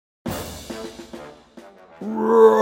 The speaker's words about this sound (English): Roar! The lion made loud sounds. The mouse heard and ran to the sounds. He saw the lion in a net.